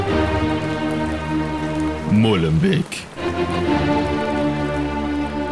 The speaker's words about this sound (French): C'est une fine pluie. Une journée sombre, sous une fine pluie. Sombre ? Non, pas si sombre. Il fait plutôt clair. Une claire journée. Une fine pluie.